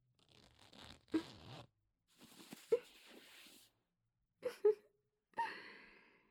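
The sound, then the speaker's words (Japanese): Clothing being unbuttoned and unzipped to undress someone: a few short bursts of rustling fabric with small clicks of buttons and a brief raspy zipper pull, separated by pauses. No one speaks. “お洋服の方、こちらで脱がして差し上げますね。ボタンとチャックの方、失礼しますね。”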